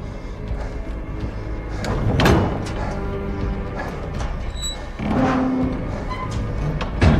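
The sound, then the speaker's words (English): A door is opened with a few heavy clunks and scraping knocks spread over several seconds, fairly loud against a steady low rumble, with no talking. “Open the door”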